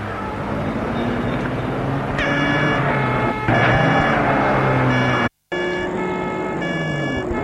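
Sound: car driving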